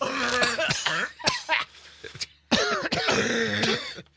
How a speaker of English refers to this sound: Okay. Bunch of sick people. Don't cover your cough, will you? Good God.